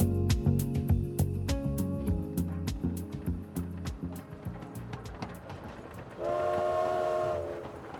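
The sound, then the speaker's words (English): A train rumbles along the rails with a steady, rhythmic clatter of wheels, then a loud, sustained horn blast sounds for about a second near the end. “In 1936, when my father was 14, his family traveled hundreds of miles by train from the small village of Pubnico in Nova Scotia to Ottawa, Canada.”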